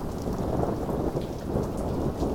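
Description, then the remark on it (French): Heavy rain pours steadily while deep thunder rumbles low and continuous beneath it, filling the whole stretch at an even, fairly loud level with no voices. “Le tonnerre me fait sursauter et ouvrir les yeux.”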